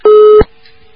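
A single loud, steady telephone busy-signal beep sounds for under half a second after a caller's line drops on a radio call-in program, bracketed by soft clicks, then fades to a faint lingering hum on the line. No one speaks.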